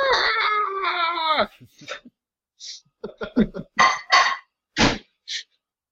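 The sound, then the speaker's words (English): A loud, buzzy electronic scream of the giant space alien from the arcade game Sinistar holds for about a second and a half, followed by a string of short, choppy, distorted synthetic speech bursts. “Sinistar was a famous game back in the day that had speaking, you know, that was the run coward, big giant screaming space alien thing.”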